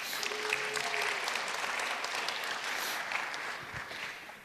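Audience applause, a dense steady wash of many hands clapping at an even level throughout, fading slightly at the end, with a faint voice briefly underneath.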